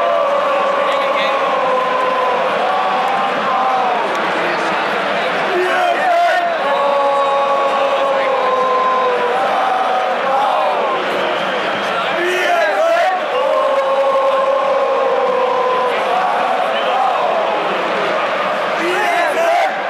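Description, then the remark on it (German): A stadium crowd of 22,002 football fans at the Mellantor roars steadily throughout, with loud sung chants rising and falling in repeating waves over the dense, continuous background of voices. “22.002 Zuschauer am Mellantor.”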